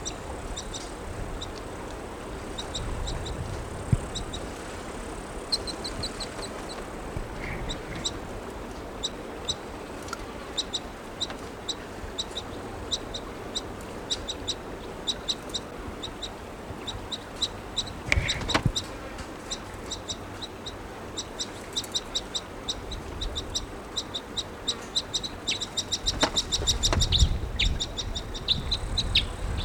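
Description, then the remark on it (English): A crossbill at a campsite fire pit calls to the male in repeated short, high-pitched chirps, coming in quick irregular bursts over a steady hiss of background noise, with a few lower clucking notes mixed in. “Here's the call to the male.”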